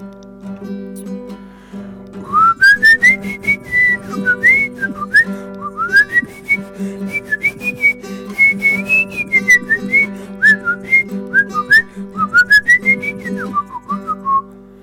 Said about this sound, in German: Ich pfeife vorne weg.